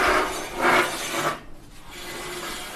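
A small ladder is dragged and shifted, giving a few rough, rasping scrapes in quick succession that fade into a softer, steady rustle. No one speaks.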